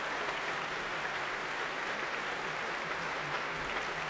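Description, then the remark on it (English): Sustained applause from the audience at the Royal Albert Hall, with the St. Louis Symphony joining in, for violinist Christian Tetzlaff after his encore at the end of the first half of a Prom; a dense steady wash of many hands clapping at even loudness throughout, with no voices standing out. “Warmly appreciated by the crowd here at the Royal Albert Hall and bringing the first half of tonight's Prom to an end.”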